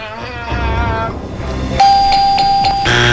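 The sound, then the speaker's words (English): A bright electronic game-show ding during a game of Sporkle rings out, repeating in quick pulses before a higher tone takes over, preceded by a busy run of musical, chiming notes. “You have the buzzers and the dings over there.”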